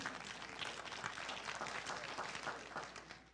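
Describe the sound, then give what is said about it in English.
A handful of people clap lightly and unevenly, the scattered hand claps sounding faint, with no one speaking over them. “I had three clap hands, and you know, that's all right.”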